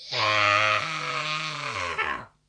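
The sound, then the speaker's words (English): A person imitates a rock singer's scream: one raspy, sustained yell lasting about two seconds, stepping up in pitch partway through before sliding down and cutting off. “So it's like one of the best screams”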